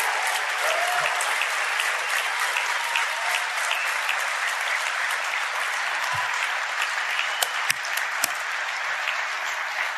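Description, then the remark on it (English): A crowd applauds steadily for Turning Point chapter leaders as they stand up, a dense, loud wash of clapping hands for the full stretch, with a few sharper individual claps popping out near the end. “These are heroes. Give it up for them.”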